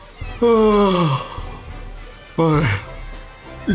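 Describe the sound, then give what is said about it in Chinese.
A big vocal yawn with a long, drawn-out falling moan, followed by a second shorter yawning groan, fairly loud, voiced by a person acting out the yawn of a story's blue-team goalkeeper during a school football team trial. “学校足球队正在进行选拔赛，安琪雄作为蓝队的守门员，望着一直集中在对方球门外激烈争夺的红蓝两队，打了个大大的哈欠。”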